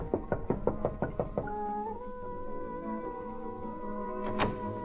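A quick, even series of about eight knocks on a wooden door, close and firm, followed by a sustained, droning musical tone that carries on after the knocking stops.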